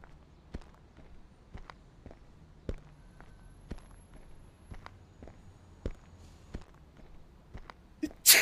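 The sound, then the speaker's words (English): Steady footsteps crunch along at a walking pace as people walk towards a house, then a sudden loud sneeze bursts out right at the end. “I sneezed.”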